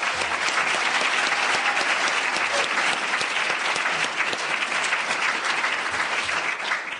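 An audience at an event at Vermont Law School applauds steadily, a dense, even wash of many hands clapping at a loud, constant level that thins slightly in the final second.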